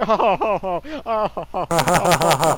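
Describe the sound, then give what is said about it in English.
A short burst of canned sitcom laughter: rhythmic voiced chuckles at first, then a fuller, louder wave of crowd laughter swelling in near the end. “Oh, canned laughter.”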